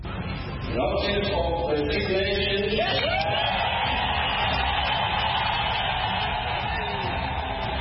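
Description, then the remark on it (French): A loud, dense crowd cheers and shouts without pause while car horns blare in long sustained tones in the streets of Harare, Zimbabwe, celebrating Robert Mugabe's resignation on 21 November 2017, with rising whoops and wails cutting through the constant roar. “Concert de klaxon dans les rues d'Harare, cris de joie et applaudissements au Parlement zimbabwéen pour saluer la démission de Robert Mugabe.”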